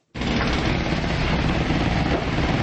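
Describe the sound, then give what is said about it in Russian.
Pneumatic jackhammers pound at a pre-revolutionary building being demolished at 3 Degtyarny Lane in central Moscow, Russia, in a dense, rapid, continuous rattle that starts abruptly and stays loud and steady throughout, with no voices. “Работают отбойные молотки, кроме пневмотехники, рабочие вовсю используют кувалды, ломы.”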